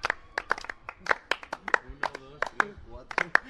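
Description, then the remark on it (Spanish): A quiet golf clap marking the Carrusel UPV program, recorded in the Roca Full bar on Plaza Chúquer: soft, polite handclaps repeating at a steady, slightly uneven pace, with people talking underneath throughout. “Este aplauso de golf sirve para avisar de que estamos en Carrusel UPV y nos hemos desplazado de nuestro hábitat natural al hábitat natural mío, es el bar.”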